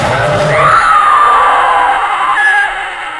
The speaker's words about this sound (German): Auf der Hälfte der Strecke hörten sie eine Art ohrenbetäubenden Schrei, der wie vor einem wilden Tier stammte.